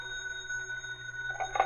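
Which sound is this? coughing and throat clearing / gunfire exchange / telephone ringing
telephone ringing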